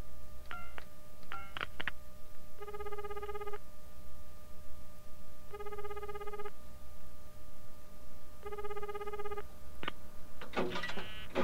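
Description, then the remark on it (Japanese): A telephone rings three times in steady, evenly spaced trilling bursts, clear, with a few clicks and a short clatter before and after the rings and no voices; a husband calling his wife while out shopping. “買い物に出たついでに妻に電話をしました。”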